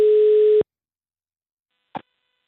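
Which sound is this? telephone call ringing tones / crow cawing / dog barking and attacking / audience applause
telephone call ringing tones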